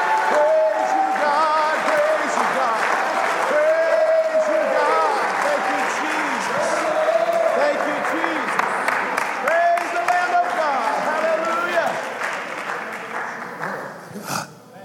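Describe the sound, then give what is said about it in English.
A crowd claps steadily and loudly for about twelve seconds as people clap their hands and shout to God, mixed with shouting and cheering voices, before the applause thins and fades out at the end. “Somebody ought to clap your hands and shout to God.”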